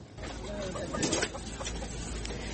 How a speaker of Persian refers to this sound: اخیراً 1000 مرغ خوشبخت توسط پرواز چارتری از یک فرمه ایالت ایاوا به پناهگاه در ایالت کالیفرنیا ایالات متحده آمریکا انتقال یافتند.